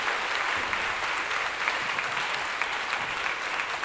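Steady, sustained applause from an audience, a dense wash of clapping hands holding an even loudness for the whole few seconds with no voices over it.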